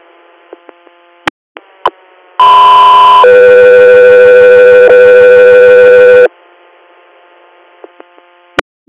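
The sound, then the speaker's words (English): A loud two-part radio dispatch alert for the Echo 3 air inter-hospital response: one steady tone, then a second lower tone held for several seconds, set between brief clicks and a faint hum from an open radio channel. “Echo 3 here, standby for tones.”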